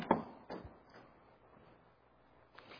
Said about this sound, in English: She knocks on the door.